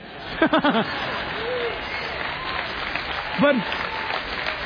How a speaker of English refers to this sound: But wait a minute. You guys just clapped and said amen.